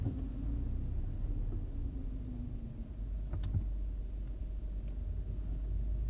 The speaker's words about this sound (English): no, I left the office at a reasonable hour, and now there's a ton of fucking traffic out here.